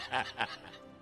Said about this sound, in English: What is that? What is that? Chicken!